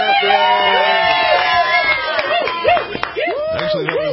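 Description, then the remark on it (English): A live studio audience cheers loudly and steadily on cue, a dense wash of whoops, shouts and yells with some clapping, sustained for several seconds without a break. “but when a North Dakota team goes to the big dance to take on Duke, I think that calls for a very loud cheer from that live studio audience that we have with us today.”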